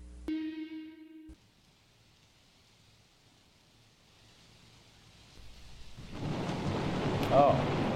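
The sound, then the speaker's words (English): A brief electronic tone sounds, then after a quiet stretch a thunderstorm swells in, with deep rolling thunder and a steady hiss of rain building louder toward the end. “Oh, the storm again.”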